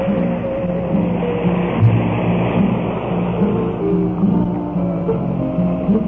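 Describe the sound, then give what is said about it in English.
A steady wash of surf at the water's edge at Waikiki, Hawaii, rolls on under a slow, sustained steel guitar melody, the noisy roar swelling slightly now and then without clear individual breaks. “The melody of David Cayley's steel guitar is answered now through our microphone by the water's edge and by the sound of the waves of Waikiki.”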